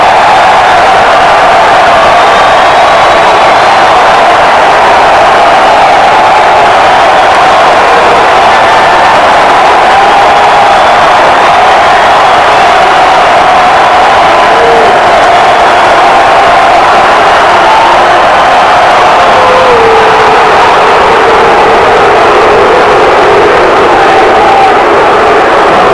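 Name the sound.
arena crowd roaring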